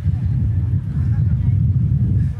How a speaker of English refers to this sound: It's quite windy here.